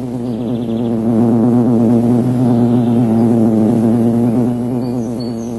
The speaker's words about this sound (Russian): Вот работает пчела-вентилировщица. В улье должна поддерживаться все время определенная температура и влажность. Вот ведь вентилировщица и машет беспрестанно крылышками, чтобы гнать воздух. Выходит, она вроде как дневальная. Ей за взятком не лететь.